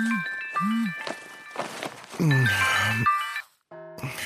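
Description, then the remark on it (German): A telephone rings with bright, repeated electronic tones, fairly loud, in Bärenbach, rudely waking someone from sleep, accompanied by rustling and muffled vocal noises before it briefly cuts off. “Am anderen Ende von Bärenbach reißt das Klingeln jemanden unsanft aus dem Schlaf.”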